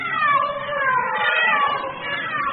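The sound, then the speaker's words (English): Several cats meow and yowl together in a steady, wavering chorus that holds for a couple of seconds, fairly loud, with no one speaking over it. “A cat, sir.”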